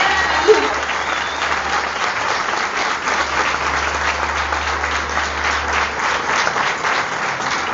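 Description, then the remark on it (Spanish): Sustained applause from a sizable audience, a dense steady patter of many hands clapping at fairly even loudness throughout, with a low hum running underneath. “Fuerte los aplausos.”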